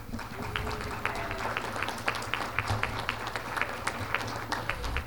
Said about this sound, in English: That round of applause was for you, the members of this organization, because that's how we got it done, with your efforts, my efforts,